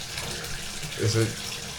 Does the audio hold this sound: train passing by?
no